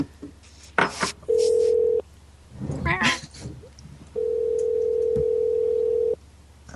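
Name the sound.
telephone dial tone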